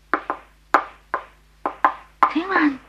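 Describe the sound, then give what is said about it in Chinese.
Someone raps on a house door early in the morning, a series of sharp, fairly loud knocks falling roughly in pairs, then a voice starts speaking over the last knocks. “等我敲门先。”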